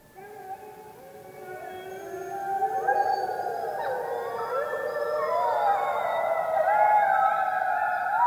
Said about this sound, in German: Und vielleicht heult hier auch mal wieder ein Wolf.